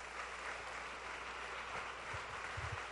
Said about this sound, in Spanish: De vuelta, dale un buen aplauso al Señor por eso.